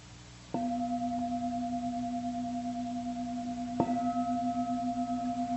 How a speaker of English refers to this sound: I've sort of forgotten how to ring this bell. Yeah, that's a good one.